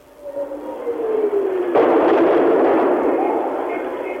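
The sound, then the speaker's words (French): A falling whistle over the white rooftops is followed by a sudden, loud double explosion in the heart of a capital city during shelling. The blast rolls into a long, rumbling roar that slowly fades. “de nouvelles explosions font trembler les murs”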